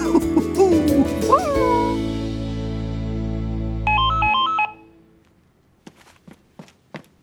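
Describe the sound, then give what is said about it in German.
A short electronic telephone ring, a quick warbling two-tone trill, rises over a sustained tonal background in a family's living room, then gives way to a few soft footsteps as someone goes to answer it. “Ich erinnere mich noch gut daran, wie das Telefon im Wohnzimmer meiner Menschenfamilie klingelte und”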